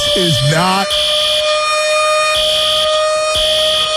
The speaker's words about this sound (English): And I think it's time to sound the alarms.